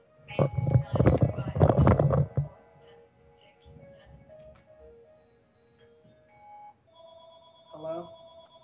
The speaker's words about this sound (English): Like just the other day, I was, well, damn it. Give me a second. I've got two phones going.